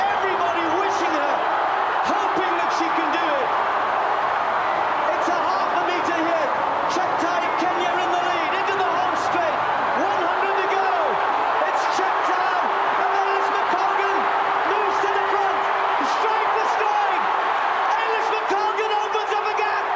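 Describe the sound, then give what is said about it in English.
A loud stadium crowd at an athletics race roars and cheers without a break as Ailish McColgan runs the final 200 metres of the 10,000 metres, a dense wash of many voices with scattered sharp claps and whistles cutting through the steady din. “Ailish McColgan has the whole crowd on her side.”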